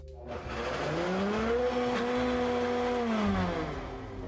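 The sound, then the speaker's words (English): A blender blitzes a vegan pasta sauce with lemon juice and reserved pasta cooking water. It whirs loudly on its own, its motor pitch climbing as it spins up, holding a steady droning hum for a few seconds, then dropping as it winds down. “Now let's blitz it all up.”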